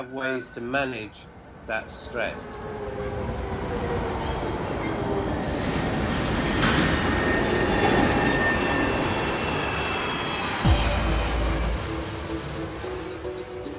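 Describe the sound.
A subway train rumbles steadily, with a rising whine and a sudden rattling jolt near the end; a voice speaks briefly at the start before the train noise takes over.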